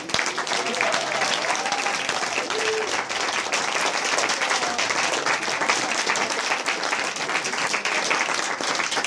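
A crowd applauds steadily, dense overlapping claps forming a loud, even wash of sound that holds for the whole stretch with only slight swells and dips.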